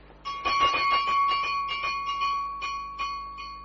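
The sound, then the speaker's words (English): A small electric call bell for a room in a building rings continuously in rapid, rattling strikes for several seconds, its bright metallic tone sustained, with no voices present. “It's the bell of your room, sir. Now, if you're down here, who rang it?”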